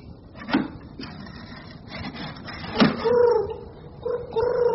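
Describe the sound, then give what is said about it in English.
A pigeon coos softly on a windowsill, two low warbling calls near the end, preceded by a couple of sharp knocks or taps against a quiet, slightly rustling background. “The pigeon's out on the windowsill”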